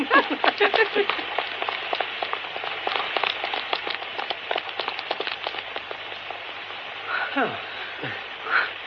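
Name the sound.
heavy rain pouring down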